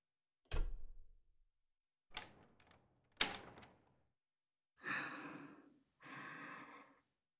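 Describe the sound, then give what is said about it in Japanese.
A door is pulled shut in a church, with several solid thuds and clicks of the latch followed by two softer, longer shuffling sounds, otherwise quiet with no talking. “あ、扉閉めますね。”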